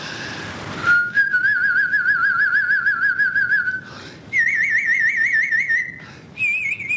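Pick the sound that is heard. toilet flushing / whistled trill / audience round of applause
whistled trill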